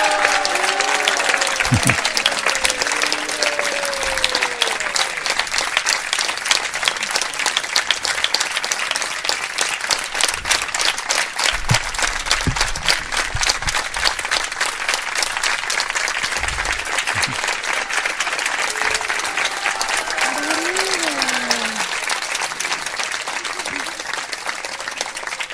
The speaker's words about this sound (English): So please give him a big round of applause. Пожалуйста, поаплодируйте ему.